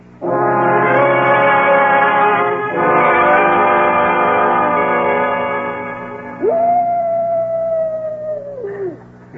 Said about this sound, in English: What was that? Just a coyote. Sounded like it came from the canyon.